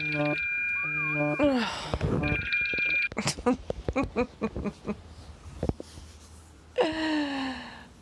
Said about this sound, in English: And then that alarm that I set late last night goes off and totally interrupts my audio.